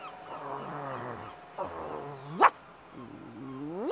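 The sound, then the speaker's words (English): A dog makes drawn-out whining, growling vocalizations, broken by one short, sharp bark partway through, then more rising whines. No speech is heard. “Get that dog off me.”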